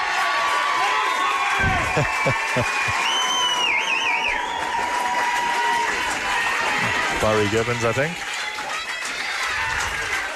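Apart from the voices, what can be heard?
stadium crowd cheering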